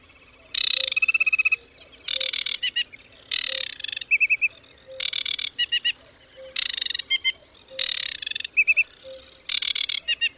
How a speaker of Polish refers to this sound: Wodniczka, podobnie jak rudzik, każdą zwrotkę wyśpiewuje nieco inaczej. Samce wodniczki tokują blisko siebie, słysząc się wzajemnie. Zaczynają śpiewać pół godziny przed zachodem słońca, kończą godzinę później.